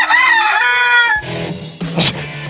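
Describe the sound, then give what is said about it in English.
A rooster crows a long, loud cock-a-doodle-doo with strained, wavering harmonics, followed by a few shorter clucks and squawks. “You know what else wakes you up in the morning?”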